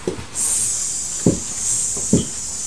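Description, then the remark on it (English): A voice imitates a snake's hiss, a loud, steady, breathy hiss that starts after a brief pause and runs unbroken to the end, with a few soft low bumps underneath. “My goodness, that's a very loud snake noise.”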